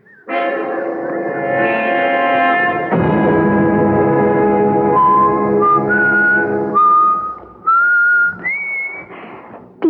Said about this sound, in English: Whistle like that all the time?